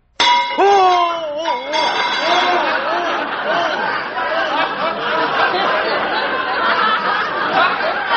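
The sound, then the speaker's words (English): A hammer taps a held rivet once with a sharp, ringing clang, followed at once by a wavering cry and loud, overlapping voices that continue to the end. “Now, look, I'll hold the rivet, and you take the hammer there and give it a tap.”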